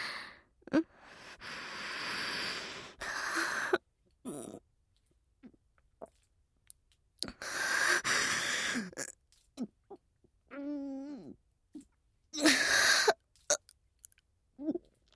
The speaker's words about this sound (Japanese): おじさま、お耳元で爆音ゲップ、失礼します。